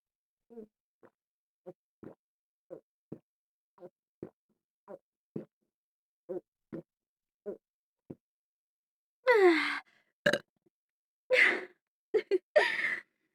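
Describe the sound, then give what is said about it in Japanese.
A long run of short, soft gulping pulses at a steady pace, then a few louder, breathy burps right by the listener's ear, with no talking. “ごめんなさい。少し出ちゃいました。”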